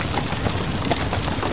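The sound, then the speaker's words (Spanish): A horse approaches at a quick, steady trot, its hooves clopping over a constant rough, noisy background, the beats fairly even in loudness. “Me parece que se acerca un caballo al trote. Pues yo creo que viene al galope.”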